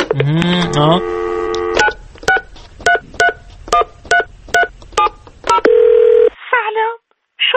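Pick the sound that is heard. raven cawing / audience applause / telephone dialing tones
telephone dialing tones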